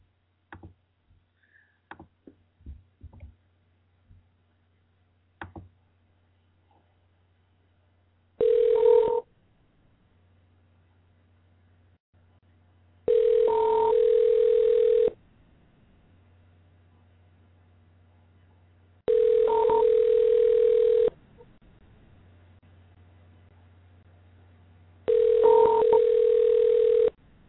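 A handful of faint clicks and taps, then the ringback tone of an outgoing call to a cell phone: four steady, mid-pitched buzzing rings of about two seconds each, separated by roughly four-second silences, with no talking.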